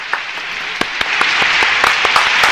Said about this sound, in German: Applaudieren wir ab Publikum. Ja, Publikum aber applaudiert.